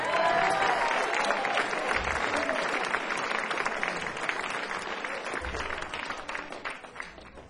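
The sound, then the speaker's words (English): Sustained audience applause at a live band show, a dense crackle of many hands clapping at a steady loud level, slowly thinning toward the end with no one speaking over it. “Hold your applause for Albuquerque.”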